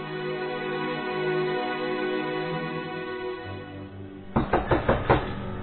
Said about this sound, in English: In his room at the Algonquin, Matt is alone when he hears a knock on the door.